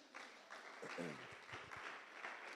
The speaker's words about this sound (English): It's his birthday today. So let's give him a clap.